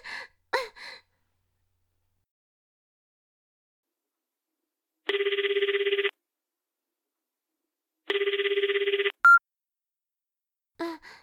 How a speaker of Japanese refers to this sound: 待って、電話